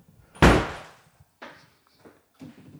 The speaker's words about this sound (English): Open the door. Close the door.